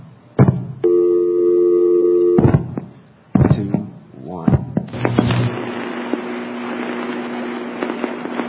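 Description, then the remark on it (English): Sharp clicks and thumps surround a steady multi-tone telephone signal, then a busy, crackling bubbling of rapid mechanical chatter from a telephone exchange's ticketer setting up the call continues for several seconds, fairly loud. “Okay, that bubbling sound is the ticketer, and that set up the call.”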